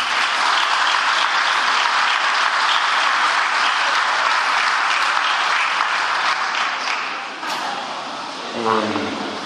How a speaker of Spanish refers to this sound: siempre está con nosotros y quiero un fuerte aplauso para ella.